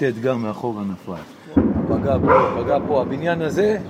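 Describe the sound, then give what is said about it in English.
A man is talking when a sudden, loud explosion from a rocket strike bursts in partway through, leaving a dense, rumbling roar under his voice as he keeps speaking. “And suddenly there was a big explosion. And just to warn listeners, we're going to play a sound of that here.”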